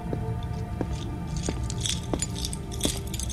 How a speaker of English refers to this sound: And you hear keys, and the first thing you do is go to the door to see what's going on.